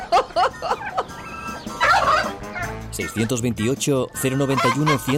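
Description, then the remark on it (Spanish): A hen clucks repeatedly and loudly, a busy run of short, bobbing clucks broken by a brief squawking flurry partway through. “Una vez más la gallina falla. La gallina falla.”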